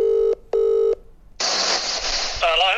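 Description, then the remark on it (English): Two steady, identical telephone keypad dialing tones sound in quick succession, followed by a burst of hissy line noise and a brief voice coming through a phone connection to someone in Germany. “You're in Germany and we've managed to connect via phone.”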